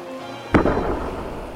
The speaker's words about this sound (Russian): Торопливо схватив ракетницу, он выстрелил.